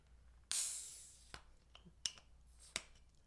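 A beer bottle cap is popped off with a bottle opener with a sharp snap, followed by a bright hiss of escaping gas that fades over a second, then a few light clicks and taps. Clear, no talking.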